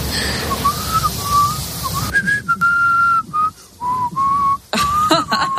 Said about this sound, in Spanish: Bueno, ya ves que sí, en esto de los silbidos hay de todo. Gente que por más que lo intenta no emite ni un solo sonido. Y gente que oye, bueno, pues más o menos sí que silba algo.